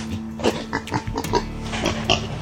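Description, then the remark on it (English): A pig grunts repeatedly, a quick series of short, rough snorts and snuffles over roughly two seconds, with a faint steady hum underneath and no talking; pigs raiding a campsite at night in Texas. “the scare his grunting visitors gave him”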